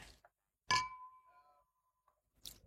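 A bright clink of glasses in a toast rings out clearly, its clear tone sustaining and fading over about a second, with a softer tap before and another brief clatter near the end.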